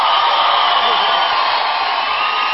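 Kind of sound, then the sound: crowd, audience applause and cheering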